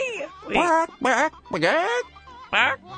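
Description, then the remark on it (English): For Talk Like a Chicken Day, a person imitates a chicken with a run of five warbling, bending vocal clucks and squawks, fairly loud, each separated by brief pauses. “Is that a chicken? Or is that kind of like a chicken with an ailment?”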